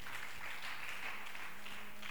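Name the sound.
audience applause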